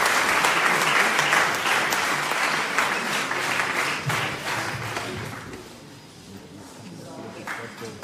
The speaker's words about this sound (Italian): E vogliamo accoglierlo va con un applauso.